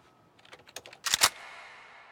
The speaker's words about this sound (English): As the young man's fingers punch the keyboard, we drift up behind him. His gaze remains fixed on his screen, his hands typing away.